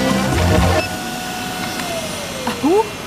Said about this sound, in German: Was ist denn jetzt los? Die Baustelle ist aber laut. Ich mach mal besser das Fenster zu.